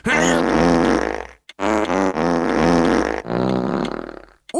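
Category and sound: human body sound, fart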